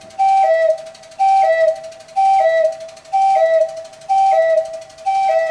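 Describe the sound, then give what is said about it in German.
The cuckoo stop of the church organ in the Klosterkirche St. Lambert, worked by a turning wheel or blown wind, repeats its two-note call about six times in a steady rhythm, a higher pipe tone dropping to a lower one, clear and fairly loud with no voices. “Wir haben auch noch einen Kuckuck und das ist praktisch ja, so ein Rad, was sich dreht oder Wind reinbläst.”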